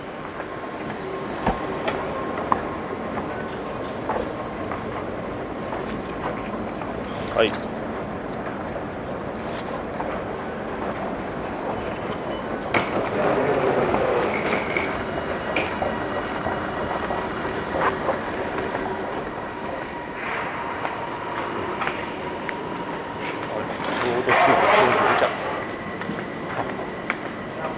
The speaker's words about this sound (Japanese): ちょうど着いたのかな、これ。電車が。ちょうど着いたっぽいですね。